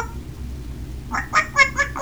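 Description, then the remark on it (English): A voice imitates a duck while doing Old MacDonald farm animal sounds, giving four or five quick, nasal quack sounds in a row that start about halfway through, moderately loud over a low background rumble. “And a duck?”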